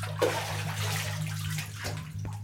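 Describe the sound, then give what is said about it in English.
A bathtub in a bathroom fills from a faucet with steady running water while a five-year-old boy splashes in it, a continuous rushing hiss with a low droning undertone, fairly loud, with a few brief splashy shifts and no voices. “"Tub's almost full, Dad," he replies after a distracted pause.”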